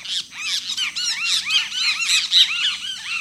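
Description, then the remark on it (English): Whistled calls of a great kiskadee ring out loud, bright arching notes repeated rapidly and overlapping in a steady, excited stream with no voices. “You'd probably also hear the whistled notes of a great kiskadee.”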